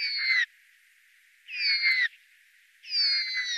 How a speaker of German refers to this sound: Sie haben eine rechte Seite und eine linke Seite und können damit zweistimmig singen. Das können wir nicht. Von einem Tannenhäher, er gehört zu den Rabenvögeln, hört sich dieser zweistimmige Gesang so an.